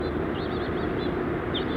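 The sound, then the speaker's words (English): House finches give a string of high, warbling chirps, faint and intermittent, over a steady low rumble of background noise. “Bunch of house finches.”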